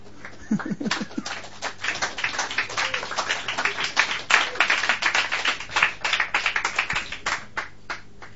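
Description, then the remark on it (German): Loud applause from a whole crowd at a church service: dense, continuous clapping with many overlapping sharp claps, sustained throughout without a break, no talking over it. “Voll laut, wenn alle klatschen.”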